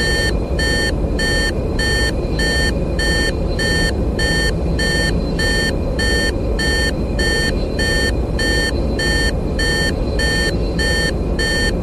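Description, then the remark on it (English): A steady, repetitive electronic beeping rogue-pilot alarm pulses about once per second, loud and continuous, over a heavy rumbling engine drone with no talking. “Yep, and as you can hear, the rogue alarm is active.”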